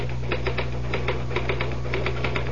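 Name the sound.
typing on a typewriter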